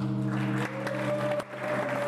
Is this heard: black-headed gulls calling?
no